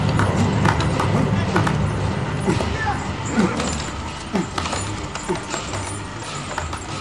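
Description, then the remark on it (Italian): Horse hooves clip-clop steadily amid a dense, rumbling background: Arjuna's war chariot, drawn by four white horses and driven by Krishna, moving at a trot; the sound stays loud and continuous throughout with scattered sharper knocks. “Arjuna nel suo magnifico cocchio da guerra, trainato da 4 cavalli bianchi.”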